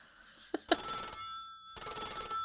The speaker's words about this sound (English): Suddenly, Ruth's phone rings, and she picks up her landline.